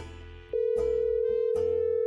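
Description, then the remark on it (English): A telephone receiver is lifted and a steady dial tone hums, broken by a couple of sharp clicks like dialing, all fairly loud over a faint background. “I picked up the phone.”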